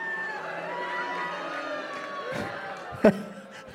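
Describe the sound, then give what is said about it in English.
An audience at a comedy festival in Washington, D.C. boos the government during the government shutdown, together in a steady, drawn-out low groan for several seconds, with one sharp clap or bang near the end. “I think you're booing the government.”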